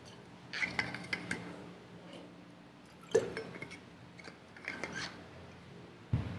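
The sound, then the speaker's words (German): Handling noises with soft rustles and scrapes, broken by a few light knocks and clinks, as if a drinking glass is passed over and set down. Nobody speaks. “könntest du mir mein Glas geben”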